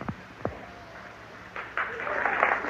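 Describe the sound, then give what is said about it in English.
A brief vocal sound, then an audience breaks into clapping during a speech, swelling into a steady, dense patter of many hands, growing louder toward the end. “Oh, Christ, I'm not trying to talk for clapping.”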